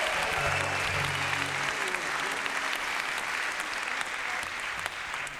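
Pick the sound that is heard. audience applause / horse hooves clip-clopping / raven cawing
audience applause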